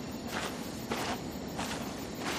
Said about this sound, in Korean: 심해에 빠져있으면 이렇게나 고요할까? 나의 숨소리와 눈을 밟은 발자국 소리만 들린다.